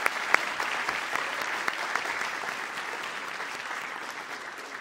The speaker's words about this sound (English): That is our final question for the evening. Thank you so much. Would give everybody a round of applause.